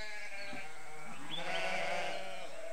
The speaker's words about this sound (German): Das Blöken der Deichschafe kann laut einer Untersuchung Mönchengladbacher Studierender nämlich bis zu 79 Dezibel laut werden. Ungefähr so laut wie die Geräusche auf einer vielbefahrenen Verkehrsstraße also.